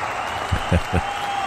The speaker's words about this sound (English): And the crowd goes wild. Oh, okay. I was wondering what that was.